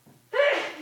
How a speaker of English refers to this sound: I don't know who it was that sneezed